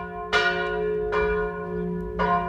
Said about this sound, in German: Wir suchen den Ort, der diese Glocken beherbergt, die hier so fröhlich läuten, weil es geht.